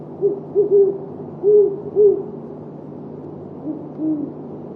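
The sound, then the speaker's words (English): Two great horned owls hooting their mating calls in the evening as the moon rises in the east, in clear, crisp air: a series of deep, soft hoots in short rhythmic groups, with the second, fainter owl answering near the end, over a quiet low background hum. “Great horned owls. Last evening, two owls were hooting while the moon was rising in the east.”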